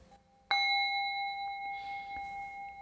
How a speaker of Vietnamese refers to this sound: Giờ thỉnh chuông hồi hướng. Hạnh phúc nhất là giờ phút này nghe.